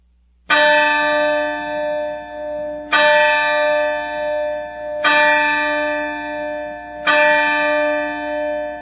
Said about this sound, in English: And the clock strikes midnight.